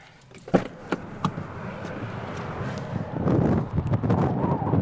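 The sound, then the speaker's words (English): Strong wind buffets the microphone in loud, rumbling gusts at the I-10 bridge, with a few sharp knocks early on and the blustery roar building heavier toward the end. No one speaks. “Super windy.”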